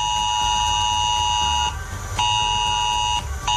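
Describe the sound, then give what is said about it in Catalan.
A loud, steady electronic alert tone from a test of the Catalan civil protection alert system in Camp de Tarragona, Penedès and Terres de l'Ebre, at 1:15 pm, with a harsh buzzing, multi-pitched timbre, sounding in long blasts separated by two short breaks, with no voices. “I aquest mateix justament s'ha fet una prova, una nova prova del sistema d'alertes de protecció civil.”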